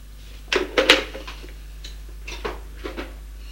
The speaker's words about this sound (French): La porte. Il regarde sur son écran et appuie sur le bouton pour ouvrir. La porte s'ouvre